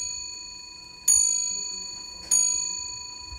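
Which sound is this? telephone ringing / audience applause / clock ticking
clock ticking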